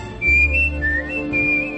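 A person whistles a smooth, sustained melody with gliding pitch changes, clear, over a soft low instrumental backing.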